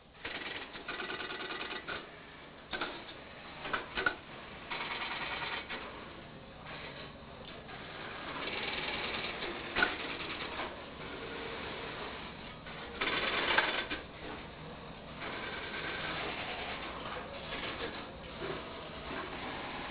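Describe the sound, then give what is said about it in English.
A mechanical telephone switch, an all-mechanical mechanism with nothing electronic, clatters and clicks continuously, with dense rapid ticking and occasional louder bursts, slightly muffled, with no voices. “Nothing electronic, all mechanical gizmos. The telephone technicians truly loved this mechanism.”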